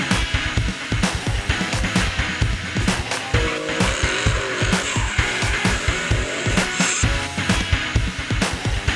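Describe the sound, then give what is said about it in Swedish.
Race cars roar around the Gelleråsen motorsport circuit in Karlskoga during the Nordic Time Attack weekend of 12-13 June, engines loud and continuous with rising and falling revs and brief tire squeals, and no one speaking throughout. “Avsnittet spelades in helgen 12-13 juni på Gelleråsen i Karlskoga.”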